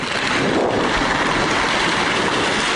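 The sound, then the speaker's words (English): Two giant sequoia trees, fused at the base, crash to the ground across a forest trail in a loud, sustained roar, a dense rushing crackle over a low rumble that holds steady for a few seconds with no voices. “A giant sequoia, actually two giant sequoias, fused at the base, came crashing to the ground.”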